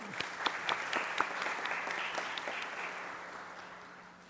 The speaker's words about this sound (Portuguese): Salva de palmas.